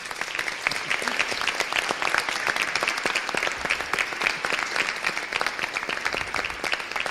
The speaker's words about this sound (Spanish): Y eso es gracias a vuestra labor y a vuestro esfuerzo. Y yo creo que le demos un aplauso a ellos.